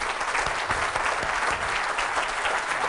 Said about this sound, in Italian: È veramente, veramente un piacere poter invitare e avere qui con noi Giorgio Sardo, al quale vi invito a fare un grande applauso.